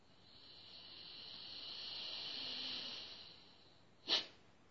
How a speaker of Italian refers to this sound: Ora pratichiamo i 9 respiri di purificazione.